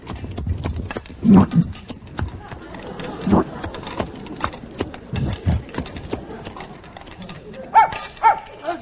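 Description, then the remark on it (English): Irregular chomping and clattering as a dog eats food out of an open refrigerator, with sharp knocks in bursts and a couple of brighter clinks near the end, over a low background murmur. “He's cleaned out the refrigerator.”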